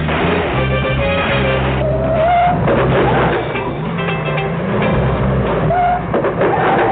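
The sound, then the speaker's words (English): A car engine runs steadily and loud, its low droning rumble layered with a shifting mechanical whine that rises and falls slightly throughout. “Man, this car's a real dud.”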